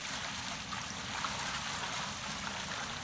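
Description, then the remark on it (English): Water from large jars pours onto an offering and wood on an altar in a steady, unbroken gush with a constant splashing wash that neither rises nor fades, fairly loud, with no voices. “Then he said to them, "Fill 4 large jars with water and pour it on the offering and on the wood.”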